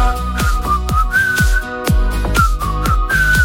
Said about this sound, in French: Ça, c'est le genre de truc qu'on sifflote sous la douche ce matin.